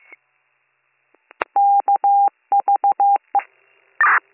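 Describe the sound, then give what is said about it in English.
A quick run of about ten telephone keypad tones, dialing a return phone call, clear, beeping in uneven clusters with brief pauses, followed by a short crackle of line noise. No one speaks. “I have a return phone call”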